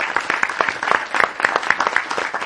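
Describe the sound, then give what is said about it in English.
A crowd at a county meeting applauds the county road department, many hands clapping in a dense, crackling wash that stays fairly even in loudness for a couple of seconds, with no voices standing out. “Let's give them a round of applause for that ice cream.”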